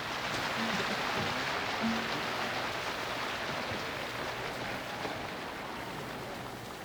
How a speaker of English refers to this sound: At this time, I shall take great pleasure in bringing to you Washington's own …. Give them a great big hand.